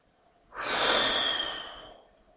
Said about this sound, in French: Inspiration lente, profonde. Puis un souffle fort, rapide, qui vide complètement tes poumons.